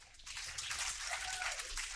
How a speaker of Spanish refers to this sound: Ese aplauso es para mí, ¿eh?